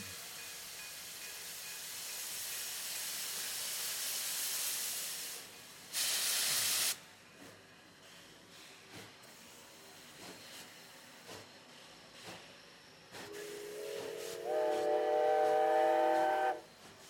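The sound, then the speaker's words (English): A steam train hisses loudly for several seconds, releases a sharp burst of steam, then clanks quietly before a long, harmonic whistle blows near the end. “All aboard for the night train sur Radio Carnaval 2025.”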